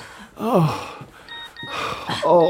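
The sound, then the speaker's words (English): A mobile phone kept inside a corset sounds a message alert as a short run of thin electronic tones. It is set between two wavering, moan-like vocal sounds that rise and fall in pitch. “You really shouldn't have your phone inside your corset.”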